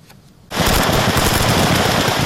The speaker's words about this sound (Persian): تبادل آتش میان نیروهای اوکراین و روسیه در نزدیکی کیف.